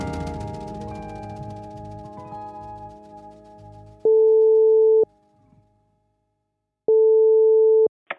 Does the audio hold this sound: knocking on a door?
no